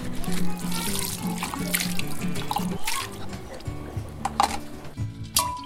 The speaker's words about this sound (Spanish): se hierve el chocoyoli con agua de cal, se enjuaga con poca agua.